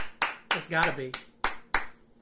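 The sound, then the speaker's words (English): About five or six sharp hand claps in an uneven rhythm, fairly loud, clapping for the Browns, with a brief voiced sound from a person breaking in between the early claps. “I'm going to clap it up for the Browns anyway.”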